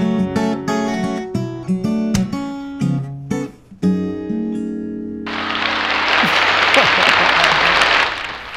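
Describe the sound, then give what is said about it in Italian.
A song's final bars ring out at Radio X, then a burst of loud, steady applause fills the last three seconds, a dense wash of clapping that swells and fades slightly at the end. “Questo non te l'aspettavi, no, l'applausone finale qui a Radio X non era programmabile.”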